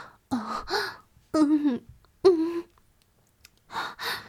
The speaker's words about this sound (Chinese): 我有一点呼吸不了，所以可能这个喘息声会重一点。